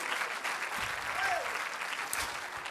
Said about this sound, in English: If you're glad for the word of God, clap your hands unto him and bless his name.